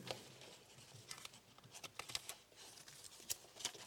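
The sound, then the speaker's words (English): Soft, scattered rustling and light crinkles of paper sheets, dropped on the floor, being picked up again, a string of quiet irregular handling noises with no talking. “Just picking up the bits of paper I dropped on the floor.”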